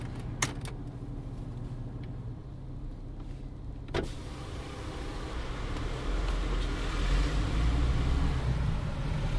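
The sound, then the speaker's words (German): Steady low rumble inside an air-conditioned car with an idling engine and fan noise, standing in slow traffic at the Slovenian border with Croatia at midday in hot sun, 32 degrees; a few sharp clicks early on, then the hum swells slightly as the car creeps forward. No one speaks. “Wir sitzen allerdings im klimatisierten Auto und stehen, es geht nur sehr langsam voran.”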